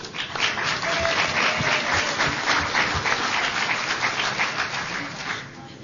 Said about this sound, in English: And if anybody would like to say that we are wonderful blind people that can do anything we choose to do, who will clap for that?